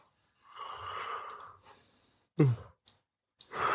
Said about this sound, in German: Ach so, das habe ich nicht gemerkt, dass du gähnst. Oh, das war doch das total professionelle Gähnen. Ah, der hat da extra für geübt.